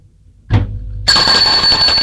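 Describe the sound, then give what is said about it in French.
A doorbell at the door of a home rings in one long, continuous, harsh electric tone that starts abruptly after a soft low thump and holds steady, loud and bright, until the end. No one speaks. “On a sonné à la porte.”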